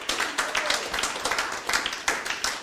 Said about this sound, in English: Thank you for clapping. Would someone like to follow his lead and clap? Would somebody? One, two, three, yeah.